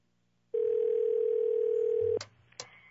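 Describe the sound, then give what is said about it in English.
A phone line rings on a call to a house: one steady, droning electronic ring tone lasts under two seconds, then cuts off with a couple of sharp clicks as the call connects. No one speaks. “it's just ringing and ringing and ringing”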